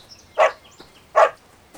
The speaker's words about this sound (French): Le chien Bouboule se met à aboyer.